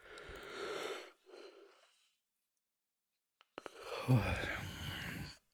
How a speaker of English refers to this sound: I'm yawning so much.